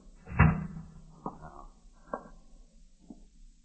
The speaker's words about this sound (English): Let me close the door.